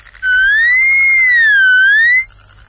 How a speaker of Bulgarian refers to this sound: Я, кос. Аз мисля, че е Вукадинов, а той излезе кос. Ама, че имитатор се извади.